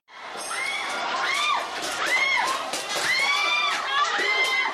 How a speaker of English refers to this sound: Well, and actually, let's take a listen here because we have some sound of the police in Hong Kong clashing with demonstrators at a subway station there on Sunday.